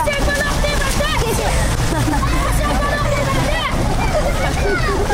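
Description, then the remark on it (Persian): Dense crowd chatter outdoors on Pashtunistan Road in Kabul, Afghanistan, beside a restored water fountain where young people take photos and children play. Many voices overlap in a steady, loud hubbub, with the continuous watery rush of the fountain underneath throughout. “در این جاده فواره آب بازسازی شده که در آنجا جوانان عکس‌های یادگاری می‌گیرند و به یک جای خوب برای بازی اطفال مبدل شده است.”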